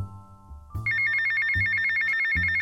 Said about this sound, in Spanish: Antes de contestarle, su teléfono empezó a sonar y alzó un dedo hacia nosotros.